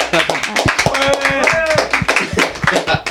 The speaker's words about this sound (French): Pour Alp Radio, j'ai le grand plaisir d'accueillir le groupe … et au grand complet, s'il vous plaît. On applaudit ?